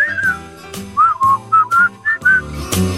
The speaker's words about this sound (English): Listen to this man whistle.